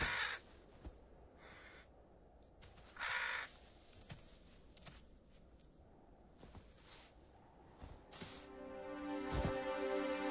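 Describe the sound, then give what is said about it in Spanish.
Crows caw loudly in short harsh bursts, one clear call early on and more clustered toward the end, with faint outdoor ambience and no voices; the crows follow bearded vultures to get some food. “Los cuervos también están por la zona y siguen minuciosamente los pasos de los quebrantahuesos, con tal de conseguir un poco de comida.”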